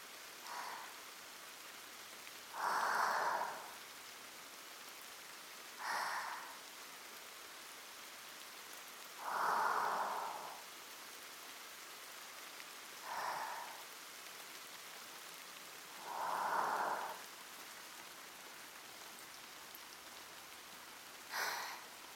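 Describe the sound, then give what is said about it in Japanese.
Steady rain hisses continuously and evenly outside a Shinto shrine, showing no sign of stopping, with a louder drip or splash standing out every few seconds. No voices, just the moderate wash of rainfall. “雨、やっぱり止む気配がありませんね。”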